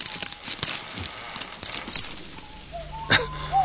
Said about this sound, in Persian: و اویلالیا در این بین حتی موفق به شکار سریع یک ماوس یعنی موشی می شود که صدای حرکتش باعث وحشت فیلیپ شده است.